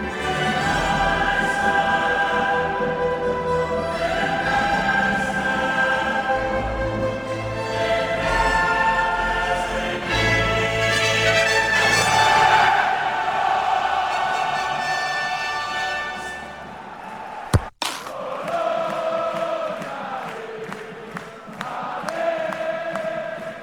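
A huge stadium crowd in Bologna, Italy, at the Champions League matchday 7 game Dortmund versus Bologna, sings a football anthem in unison, a loud, sustained wall of voices with a steady melody, briefly cut by a sharp click before the singing carries on.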